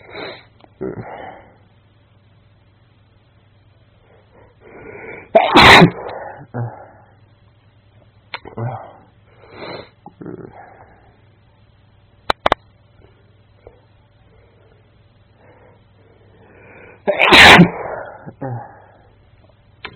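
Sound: sneezing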